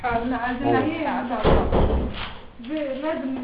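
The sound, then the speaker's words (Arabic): A door closes with a solid thud partway through, its broad bump of noise cutting in between stretches of people talking. “اقفل الباب وبطل دوشه.”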